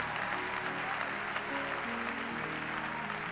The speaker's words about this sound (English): If you're going to clap, give the Lord a proper clap offering.